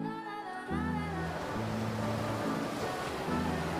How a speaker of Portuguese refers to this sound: Este é o mar bravio e gelado, onde a baleia foi nadar com o caracol a sua cauda agarrado.